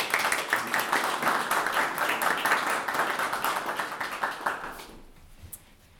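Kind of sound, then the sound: crowd, warm applause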